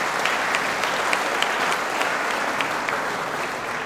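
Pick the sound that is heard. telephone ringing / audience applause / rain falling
audience applause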